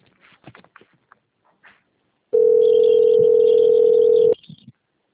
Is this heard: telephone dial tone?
yes